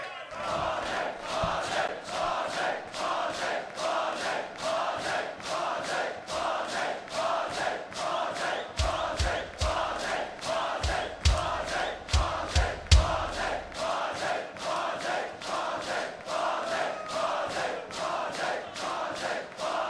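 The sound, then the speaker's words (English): A concert crowd at a rock and roll show screams and cheers for an encore, a loud, unbroken roar of many voices with steady rhythmic clapping or stomping pulsing through it the whole time. “Man, I was almost back in my van going back to the hotel and I heard you guys screaming so loud, we just had to come back on stage and play a couple more songs.”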